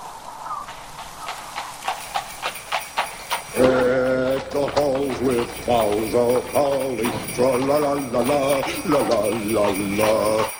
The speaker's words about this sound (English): And, you know, I love this sleigh. This is a nice, tight little machine.